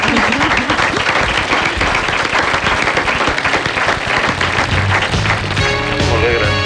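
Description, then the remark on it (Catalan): An audience bursts into steady, dense applause for a 90,000-peseta bid on Ronaldo's boots at an auction, many hands clapping at once at full volume, with a few whoops and voices mixed in and a musical tone rising near the end. “Aplaudim?”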